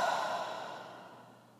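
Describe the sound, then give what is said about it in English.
A single slow, deep breath out, soft and airy, gradually fading over about a second and a half, with no talking. “And breathing out.”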